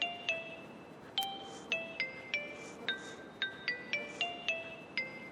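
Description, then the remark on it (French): A telephone rings on the line after a number is dialed at random on a dial phone, as a rapid series of short electronic chime tones at shifting pitches, each struck note fading briefly, repeating across several seconds over a faint background hiss. “Au bout d'un moment, j'entends une sonnerie et quelqu'un décroche.”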